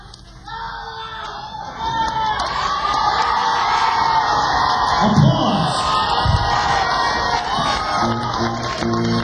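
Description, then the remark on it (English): A crowd cheers loudly with whoops and shouts over a steady wash of clapping, the noise swelling after a quieter start and staying dense and energetic throughout. “applause”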